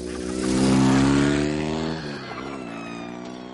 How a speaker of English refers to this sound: Three monkeys go by on a motorcycle, didn't you?